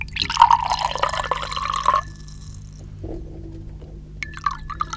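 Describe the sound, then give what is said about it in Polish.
Another round of drink is poured into glasses in two bursts: a bright gurgling splash for about two seconds, then a quieter trickle with a few drips and clinks of glass. “Jeszcze po jednym? Owszem, bardzo chętnie. Proszę bardzo.”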